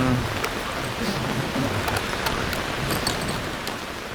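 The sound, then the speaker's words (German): Steady heavy rain pours down for hours on people rowing a boat on the River Thames, in a dense, continuous hiss, with scattered sharper drops pattering on a surface throughout, fairly loud with no voices. “Den ganzen Tag waren wir schon im strömenden Regen über die Themse gerudert.”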